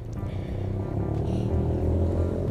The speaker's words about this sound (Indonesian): Ada motor lewat.